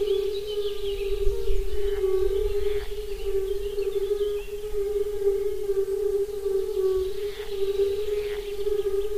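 A steady, mellow hooting drone of more than 50 fire-bellied toad males calling together, a continuous low-pitched chorus with faint higher overtones, no speech, constant in loudness throughout.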